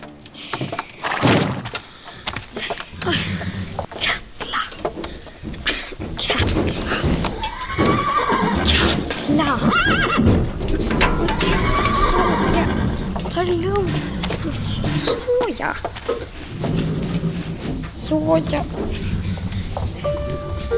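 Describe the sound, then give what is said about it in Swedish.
A horse named Fiala whinnies loudly a couple of times, its neighs rising and falling, amid hoof clip-clops, wooden thumps and a sliding door, with people talking underneath. “Vem behöver 15 vita hästar när man har dig, Fiala?”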